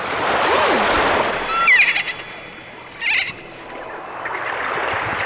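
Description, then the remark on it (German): Water bubbles and gurgles steadily, a hissing churn with a couple of louder splashy bursts and faint squeaky whistles partway through; nobody speaks. “Blubbert und gluckert.”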